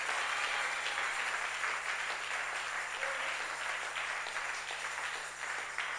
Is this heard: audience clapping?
yes